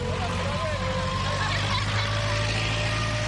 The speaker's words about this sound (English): That's not a heavy truck. It is a machine which is finalizing the construction.